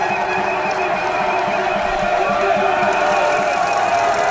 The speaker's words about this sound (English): Who is this? A rider's coming. Big cheer for the motorbike. Who is it?